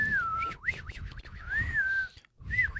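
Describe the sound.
A person whistles a wavering, warbling tune as a poor impression of bird chirps, with sliding pitch swoops and trills, fairly loud, pausing briefly before a final short chirp.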